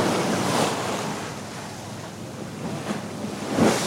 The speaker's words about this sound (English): Today we're standing near the stern of a ship sailing the North Pacific. The wind must be blowing 25 knots.